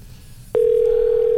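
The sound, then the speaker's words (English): A telephone line tone cuts in abruptly and holds as a steady, clear electronic hum, with no voice picking up, only faint low background rumble underneath. “Nobody answers the phone anymore.”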